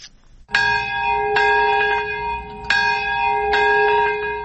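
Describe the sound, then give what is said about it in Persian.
Memorial bells ring at a ceremony in Nagasaki, Japan, marking 71 years since the nuclear bombing of the city, with resonant, sustained tones struck repeatedly at roughly one-second intervals, each strike blending into a long humming ring, loud and clear with no voices. “صدای زنگ ها و ناقوس ها همساله این را به یاد می دهند که در یگانه مورد حمله هسته‌ای در ژاپن بیش از 200,000 تن جان دادند.”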